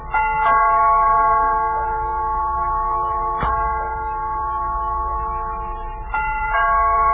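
A doorbell rings again and again as Breslin keeps pressing the button, its bright buzzing chime sustained and re-struck about every three seconds, fairly loud, with no voices.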